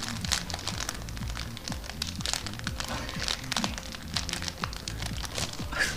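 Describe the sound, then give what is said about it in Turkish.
Steady crinkling and crackling of a plastic bag, continuous for several seconds, made as foley to mimic the snap and pop of a fire burning in a fireplace, with faint low murmuring underneath. “Naylon torbayı hışırdattım valla.”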